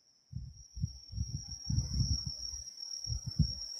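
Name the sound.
autumn insects chirping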